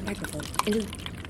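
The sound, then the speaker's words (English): Wine pours briefly into a glass, a soft gurgling trickle with a small clink near the middle, partly masked by someone talking. “Okay, because I have a tendency to drip the wine.”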